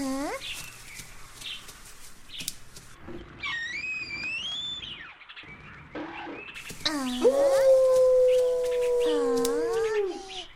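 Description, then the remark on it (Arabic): A wolf howls in one long, sustained, wavering note near the end, loud, after a stretch of high chirping and other calls. “إنه صوت ذئب.”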